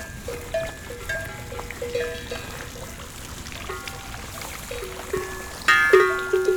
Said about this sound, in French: Un troupeau de vaches.